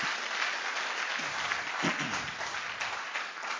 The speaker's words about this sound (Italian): A Gesù l'applauso, dai. Facciamolo forte l'applauso a Gesù.